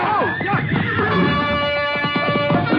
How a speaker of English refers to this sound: Tuller lashed his horse and dove behind the other mounts at the rack. The frightened animal reared over and knocked Small into me before Clark could grab the bridle.